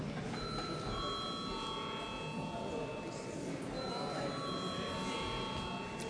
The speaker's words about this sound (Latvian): Tātad vēlreiz lūdzu zvanu.